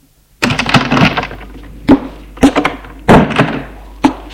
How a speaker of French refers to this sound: la porte s'ouvre.